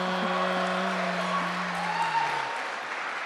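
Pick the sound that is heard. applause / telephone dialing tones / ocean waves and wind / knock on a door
applause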